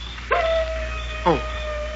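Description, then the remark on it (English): At night, a wolf on a rise, outlined against the sky, gives two sharp barking yips, about a second apart, over a thin, steady drawn-out tone, clear against a quiet background. “Oh, listen. Darn wolf.”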